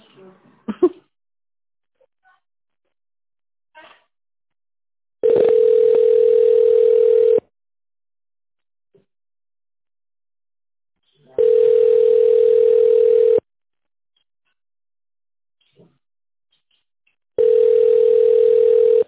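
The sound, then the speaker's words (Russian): A telephone ringback tone sounds three times while waiting for an answer after an automated phone menu: steady mid-pitched tones about two seconds long, separated by roughly four-second silences, with a few faint clicks between them. “Наберите внутренний номер или дождитесь ответа.”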